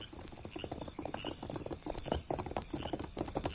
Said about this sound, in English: Him smell horse. Someone come.